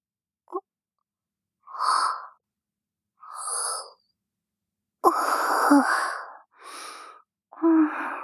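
yawn

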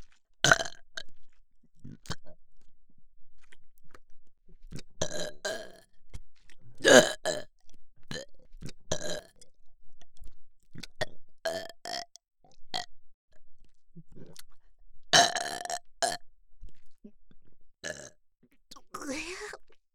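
burping

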